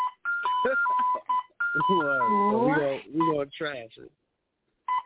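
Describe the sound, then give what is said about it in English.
A handheld scanner's error beeps, set off at work by purposely scanning a wrong bin, sound in quick succession: short electronic tones at varying pitches forming a choppy, tune-like pattern, with a voice audible through much of it. “I'm at work, so I just purposely scanned a wrong fucking bin.”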